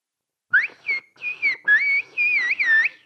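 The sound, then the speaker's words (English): A loud, clear whistled phrase in Turkish whistle language, 'İslik dili konuşuyoruz' (we speak whistle language), a run of gliding, rising and falling tones broken into several short bursts, heard alone without any talking. “And how about, we speak whistle language.”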